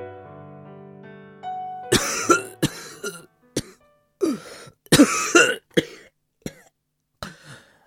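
A fit of heavy, hacking coughs comes in uneven bursts, loud and close, with a few throaty rasps between them, following a soft sustained musical tone that fades out.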